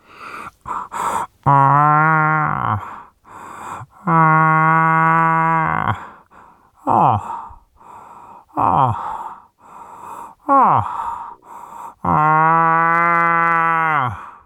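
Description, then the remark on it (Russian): A man imitates a bull moose's rutting call, the call he uses to lure bulls during the rut: three long, deep, droning groans with strong harmonics, separated by short breathy grunts and gasps, fairly loud throughout. “Вот я, значит, изображу прямо реальный голос, с которым я подманиваю самцов. Это вот так кричат самцы.”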